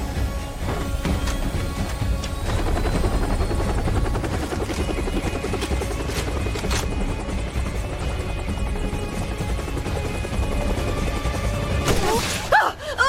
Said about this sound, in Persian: هلیکوپتر محکم بشینیم.